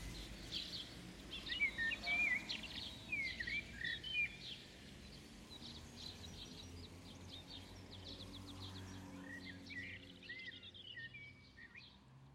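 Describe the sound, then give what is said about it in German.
Birds chirp and twitter outdoors by a pond in a garden, short bright calls clustering in bursts during the first few seconds and again near the end, over a low steady background rumble. “Am anderen Fenster, bei unserem Garten, da ist ein Teich, wo immer viel Vogelgezwitscher ist.”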